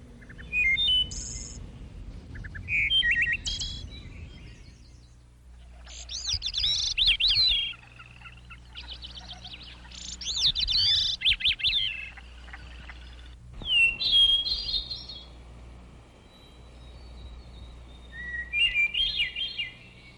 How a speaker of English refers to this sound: And the next one is for those listeners who like the birds in the morning.